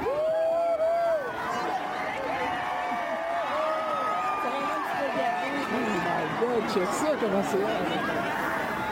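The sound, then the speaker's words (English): A large outdoor crowd gathered in Jacques Cartier Park, Sherbrooke, to watch the April 8 eclipse chatters steadily, many overlapping voices blending into a continuous hubbub, with occasional higher exclamations and children's voices rising above the babble. “met up with people in Sherbrooke's Jacques Cartier Park, where the sun and the moon drew big crowds.”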